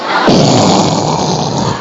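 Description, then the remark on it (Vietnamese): A voice imitates the loud, rasping night-time snore of a partner sleeping alongside, likened to sawing wood, one long rattling rumble that holds steady and harsh for about two seconds with no other talk. “Còn bây giờ đêm thì nó gáy khò khò, rãi thì nó rõ ra, có chịu nổi nữa hay không?”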